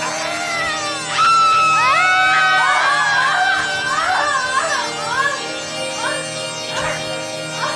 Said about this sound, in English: But what if we get in trouble? Like, no one's gonna scream. Care. We can just yell out after we scream that we're totally okay. It's fun. Okay. Okay. 1, 2, 3.